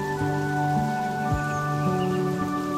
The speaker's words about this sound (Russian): И тихий летний дождь стучит по крышам домов и листьям деревьев.